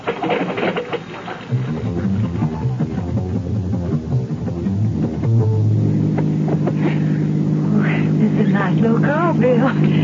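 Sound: car engine driving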